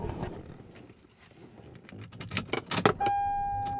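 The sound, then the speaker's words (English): Inside an old Toyota Avalon being driven home, a low rumble gives way to jangling keys and sharp clicks, then a steady electronic tone sounds and holds to the end. No one speaks. “And I am driving home. I'm in my son-in-law's car today.”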